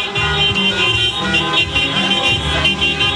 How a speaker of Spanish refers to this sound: Y mira, acá, de hecho, aquí pueden escuchar también el sonido ambiente también de los vehículos que están pasando con los bocinazos.